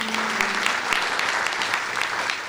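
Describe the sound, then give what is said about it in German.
An audience applauds steadily after amateur singers perform Giacomo Puccini's Storiella d'amore, a dense, even wash of many hands clapping at once, loud and continuous with no voices over it. “Doch bis zum Applaus war's harte Arbeit.”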